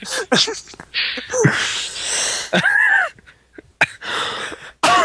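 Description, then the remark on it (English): A run of harsh coughs comes in several uneven bursts, some with a wheezy, strained vocal edge and short breathy gaps between them. “This is the cough episode.”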